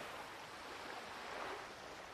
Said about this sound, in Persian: من هر وقت میخوام آروم بشم به صدای امواج دریا گوش میکنم.